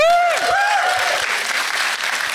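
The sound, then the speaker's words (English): A crowd bursts into steady, dense applause, many hands clapping together at an even level throughout, with a short rising-and-falling whoop from a voice at the very start. “Sitting down and applauding like an idiot.”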